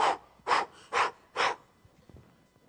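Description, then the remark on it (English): A person blows four strong, breathy puffs of air at a sailboat's sail raised part way, each a short whooshing burst about half a second apart, in a steady rhythm, followed by quiet with faint rustling. No one speaks. “You watch me only raise the sail part way and then begin to blow.”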